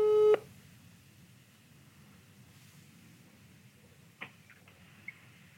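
A loud, steady electronic telephone ringing tone of a call being placed to the Wilson company sounds briefly at the start, then cuts off into a low line hiss, broken later by two faint, short high chirps. No one speaks.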